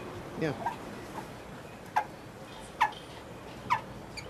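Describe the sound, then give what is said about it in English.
Small old bronze long case clock bells, the kind found on a grandfather clock, struck three times at a steady, unhurried pace, each a light, bright metallic ping that fades quickly, heard faintly against a quiet background. “they're long case clock bells, so the kind of thing you might find on a grandfather clock”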